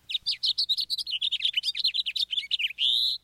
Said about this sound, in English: songs of two common finches provide a steady soundtrack in cities across North America. There's the house finch.